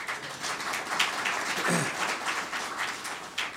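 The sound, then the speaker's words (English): A conference audience applauds Marty Lafferty of the Distributed Computing Industry Association (DCIA) steadily for a few seconds, a dense wash of many hands clapping at an even, moderate loudness with no voices over it. “We partner with the Distributed Computing Industry Association, DCIA, and Marty Lafferty in putting together the program, and Marty has done a fantastic job, and I think we should give him a round of applause to begin with.”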